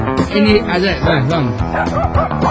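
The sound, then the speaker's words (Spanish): Two dogs, Timmy, a Bichon Frisé, and Muffin, a Shih Tzu, bark, yip and whine loudly at their wedding ceremony in the Harrods shopping centre in London, the high wavering cries overlapping one another almost continuously for a couple of seconds. “Dos perros.”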